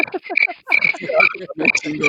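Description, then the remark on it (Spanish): Cricket chirping sound effect: rhythmic, high chirps in quick repeated bursts with a croaky, throaty texture, moderately loud, with no voices. “Silencio incómodo, silencio incómodo. Pon un pinche grillo, por favor, güey, después de ese comentario.”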